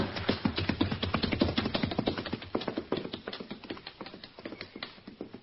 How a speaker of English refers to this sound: The horses are stampeding.